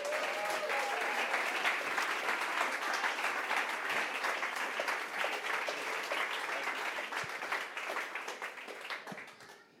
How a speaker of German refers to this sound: Begrüßen wir ihn mit einem herzlichen Applaus,